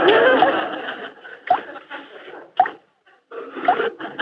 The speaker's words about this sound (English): The shower is dripping. Oh. Yep, sure is. Somebody should get up and fix it.